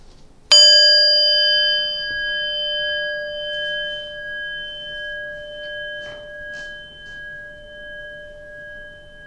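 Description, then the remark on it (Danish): A single meditation bell is struck once and rings on with steady, shimmering tones that slowly waver and fade across several seconds. No voices are heard. “Men først følg lige lyden fra klokken her, indtil du ikke kan høre den længere.”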